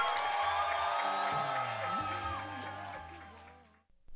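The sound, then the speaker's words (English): A large crowd at the National Federation of the Blind's Washington seminar cheers and whoops loudly for a statement of commitment and the issues to take to Capitol Hill, a dense wash of voices with shouts rising above it, sustained for several seconds before cutting off abruptly. “After a rousing cheer for the statement of our commitment and the issues we would take to Capitol Hill”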